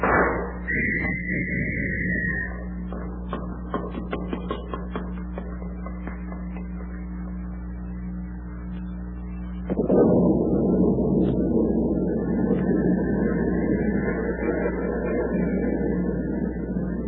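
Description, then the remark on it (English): A thunderstorm at sea, with lightning: steady rushing wind and heavy rain over a low droning rumble as the water churns into white-capped waves, with faint high whistling gusts; the downpour swells suddenly louder about two-thirds through and keeps roaring. “Snarling silver flecks of lightning flash across the black sky. The brooding wind whips at the heavy rain.”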